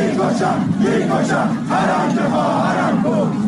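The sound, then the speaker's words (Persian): A large crowd chants in unison at the 40th-day memorial ceremony for Mahsa Marghoobi in Fuladshahr, Isfahan, on 12 Aban, many voices merging into a loud, steady roar with rhythmic rises in pitch, filling the whole clip without pause. “در فولادشهر اصفهان جمعیتی انبوه در مراسم 40 مهسا مرغویی گرد آمده بودند.”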